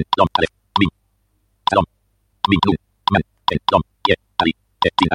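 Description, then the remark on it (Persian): A quick, irregular run of about fifteen short taps and clicks of braille-style typing on a touch device with click feedback, typed the same way as on a Perkins braille machine, some bursts carrying a brief tonal, voice-like quality, separated by short pauses. “برای اینکه بخوام ادامه یه کار رو انجام بدم و تایپ کنم دقیقاً به همون صورتی که روی ماشین پرکینز تایپ می‌کردم شروع می‌کنم اینجا تایپ کردن.”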